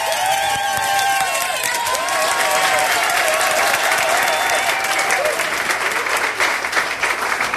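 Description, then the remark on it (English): Loud, steady applause fills the whole stretch, dense clapping from a large crowd with some cheering and whistles rising above it, unbroken from start to finish. “Clap, man. Do we need 4 of them? No. Each one gets a little more excited.”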